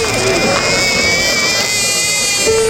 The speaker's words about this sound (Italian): A piangere ininterrottamente è il piccolo …, un neonato come gli altri